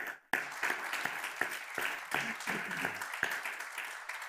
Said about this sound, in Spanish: Un reconocimiento a nuestros legisladores nacionales y provinciales y a los representantes de los partidos políticos de la provincia de San Juan, para quien pido sí un fuerte aplauso.